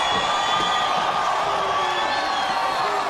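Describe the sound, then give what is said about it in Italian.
A large wrestling arena crowd cheers in a loud, sustained roar during a Hogan strap match against Lex Luger, with whistles and shouts blending into a dense, continuous wall of noise that never lets up. “Minchia, sentite il pubblico.”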